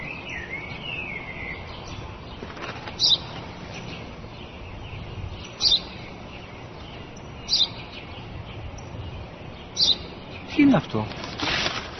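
A sparrow chirps in short, sharp bursts spaced a couple of seconds apart, over a steady hiss of outdoor background noise, with a louder chirp cluster near the end.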